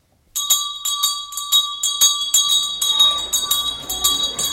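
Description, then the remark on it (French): A school bell rings loudly and continuously for several seconds at 2 o'clock, its rapid, even clanging holding a bright metallic tone, with some faint background bustle building toward the end. “Et à 2 heures, quand la cloche sonna, le maître d'études fut obligé de l'avertir pour qu'il se mît avec nous dans les rangs.”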